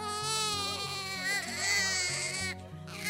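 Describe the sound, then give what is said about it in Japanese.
A newborn baby wails loudly and continuously, its high quavering cry rising and falling, with a brief break near the end, over a low, steady musical background. “千年ぶりにこの国に聖女様がお生まれになったぞ。”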